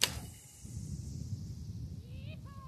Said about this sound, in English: pulls the arrow back and raises the bow.